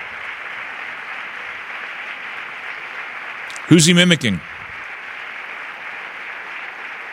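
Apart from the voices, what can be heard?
thunderous applause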